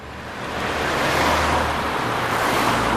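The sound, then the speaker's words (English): Steady roar of passing road traffic of petrol cars and diesel trucks, a broad rushing wash with a low engine rumble underneath, fading in over the first half second and then holding loud and constant with no voices. “Cars pumping petrol, trucks burning diesel, and coal firing power stations.”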